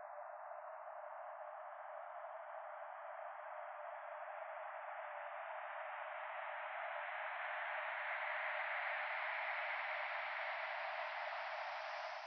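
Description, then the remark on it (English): A steady, synthetic windy purr of filtered noise, a sonification of Chandra data, holds for about twelve seconds, its hiss slowly brightening and growing slightly louder toward the end, with no voices. “Meanwhile, the Chandra data are rendered to sound more like a synthetic and windy purr.”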